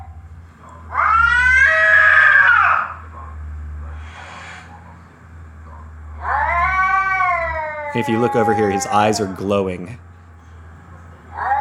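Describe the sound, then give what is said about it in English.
A cat caterwauls from underneath a coffee table in a house in long, wavering, drawn-out yowls, two main howls a few seconds apart, the second breaking into choppy wails, while a person speaks quietly in between. “This is Phillip protecting the house from underneath the coffee table.”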